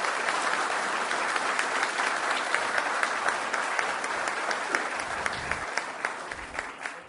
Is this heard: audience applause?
yes